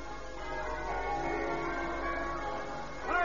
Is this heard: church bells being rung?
yes